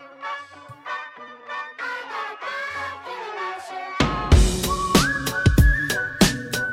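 A bright, tuneful whistled melody opens a song, its notes gliding and stepping in a lively rhythm before a fuller band enters with punchy, crashing hits and a sustained high tone.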